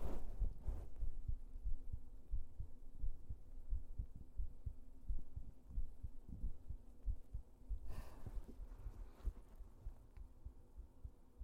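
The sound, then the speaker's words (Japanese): A heartbeat thumps steadily, a low muffled pulse repeating throughout, with a couple of brief scratchy rustles breaking in partway through. “よく心音が聞こえる場所でどこ？”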